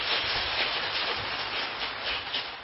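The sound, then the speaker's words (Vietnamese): An audience applauds steadily to congratulate the owner of the Nhân Thiện Tâm vegetarian restaurant, a dense wash of many hands clapping at once with no pauses, holding an even, moderate loudness throughout and no voices heard. “Như vậy thì xin đại chúng cho một tràng pháo tay để chúc mừng.”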